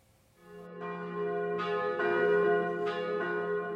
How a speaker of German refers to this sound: Belgien schwieg heute 60 Sekunden, dann läuteten die Kirchenglocken.